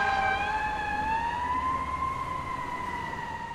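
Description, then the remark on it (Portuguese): A fire truck siren wails steadily and loudly, its tone rising slowly through one long continuous sweep with rich harmonics, heard alone with no talking. “O caminhão de bombeiros estacionado rente à cama atendeu a chamada de emergência.”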